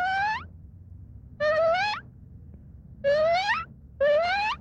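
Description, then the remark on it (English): a man, a Swiss man from Basel, imitates a barking deer call: four loud, short, tonal barks, each sliding upward in pitch, spaced unevenly over a low, steady, muffled traffic roar. “In fact, it was only the sound of a barking deer. The man making the sound is a Swiss from Basel, ….”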